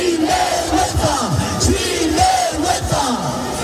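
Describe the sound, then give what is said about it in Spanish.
A large crowd of over 1,500 prison officers shouts in unison on Calle Alcalá in Madrid, outside the office of the secretary general of prisons, Ángel Luis Ortiz, many voices chanting a rhythmic slogan over a steady roar, with rising and falling tones repeating every second or so, loud and continuous. “Se lo gritaban al secretario general de prisiones, Ángel Luis Ortiz, ante su despacho en plena calle Alcalá.”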